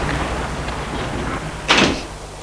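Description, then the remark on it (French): A house door, unlocked with a laser key tool, is opened slowly as a man sneaks in, with one brief, moderately loud rustling push midway through, set against a steady low hum in otherwise quiet surroundings. No one speaks. “La porte.”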